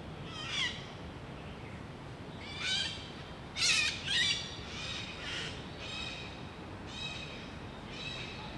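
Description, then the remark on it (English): Harsh, raspy squawks of yellow-crested parrots ring out again and again at night in an 80,000 square metre park behind skyscrapers of Central, about eight loud calls at irregular intervals over a steady hiss of background noise, with no talking. “a species of parrot with a jazzy yellow crest and an even more recognisable squawk”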